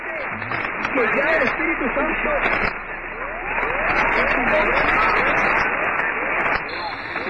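Rapid, repeated rising radio sweep tones chirp through a dense wash of crackling radio static, a reception captured one night by Saul Chernos at Burnt River, Ontario. The reception is loud and steady, with a brief dip partway through.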